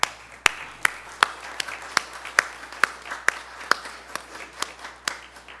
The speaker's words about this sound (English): All mothers, please stand. Let us give them all a round of applause.